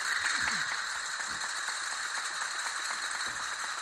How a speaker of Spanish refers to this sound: Y para finalizar, el llamado aplauso castañuela.